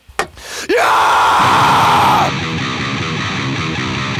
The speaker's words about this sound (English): Give me a scream